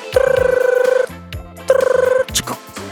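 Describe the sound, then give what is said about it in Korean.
A telephone rings twice as a radio show connects a call, each burst a rapid trilling warble about a second long with a short pause between, loud over soft background music. “네, 전화 연결해 볼게요.”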